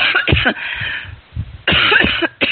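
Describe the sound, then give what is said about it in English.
A person coughs in two harsh fits of several rapid bursts each, separated by a brief pause, with a muffled, phone-like quality and no talking. “Well, I just have this cough. It's awful.”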